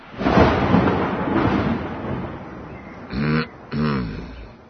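A thunder clap crashes loudly, then rolls off into a long, rumbling fade. Two short, honking vocal-like sounds follow close together near the end.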